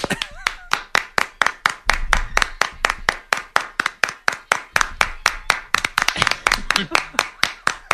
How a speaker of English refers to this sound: That's a slap in the face. No, that's us doing the clapping.